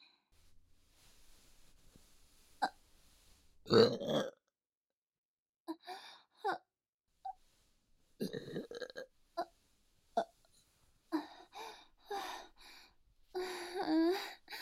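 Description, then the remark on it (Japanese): A loud, drawn-out burp erupts up close, surrounded by softer breathy mouth noises, short gulps and sighs, with a second throaty belch-like rumble near the end. “あなたの我慢汁ゲップ出させていただきますわね。”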